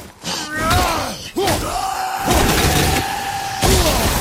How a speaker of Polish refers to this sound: Słuchajcie, zapomniałem, że ci tacy wybuchają. Jak się ich zabije, to oni jeszcze na końcu po śmierci wybuchają.